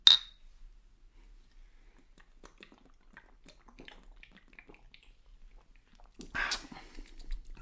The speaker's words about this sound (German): Ein Humpen, der größer ist als sein Kopf, haut dieser Junge sich, eindeutig minderjährig und noch nicht 16, haut der sich dieses Bier in den Kopf. Und ja, das ist jetzt hier die Version Blonde.